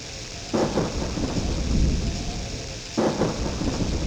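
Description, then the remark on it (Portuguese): A thunderstorm with steady rain hissing throughout and deep rumbling thunder, including two sharper crashes that burst out and roll on beneath the downpour. No voices. “Un día de tormenta, a bruxa Catuxa intentou botala da casa, pero non o conseguiu.”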